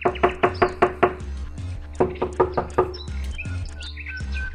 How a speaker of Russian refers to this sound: Пришел медведь стучиться.